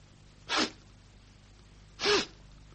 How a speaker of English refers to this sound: Sniff, Shurkard. Sniff again. Well, does nothing assail your nostrils? Some trace, some lingering fragrance. Perfume, lad. Feminine perfume.